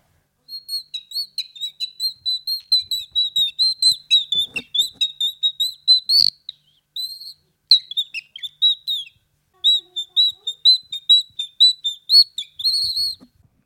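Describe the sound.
A nightingale's song imitated on a bird call whistle: rapid, bright chirping bursts repeated in quick rhythmic runs with brief pauses, loud, with no talking.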